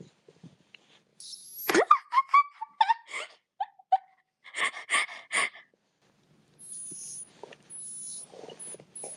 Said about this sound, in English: And now I will drink from this bottle.